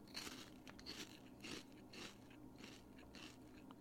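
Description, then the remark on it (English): Steady crunching and chewing of a Korean barbecue flavored crisp snack, with repeated crackly bites in an irregular rhythm and no talking. “Do you want to hear my chews on it?”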